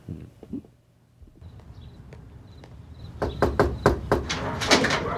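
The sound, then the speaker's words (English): Someone from Teleflora raps on a mother's front door to make a Mother's Day special delivery, a quick series of about eight sharp, loud knocks, after a few seconds of quieter background rumble and a couple of faint taps. “And then they knock on the mom's door.”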